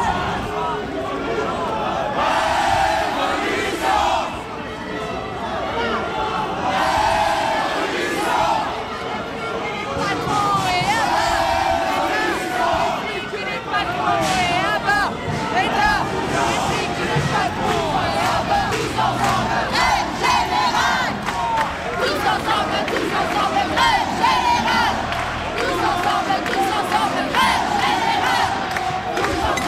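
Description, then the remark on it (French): A street protest crowd on an unauthorized march along the quays of the Saône on the Presqu'île chants and shouts in unison, a loud, steady roar of many voices with rhythmic swells of yelling that continues without pause throughout. “La manif longe les quais de Saône sur la presqu'île.”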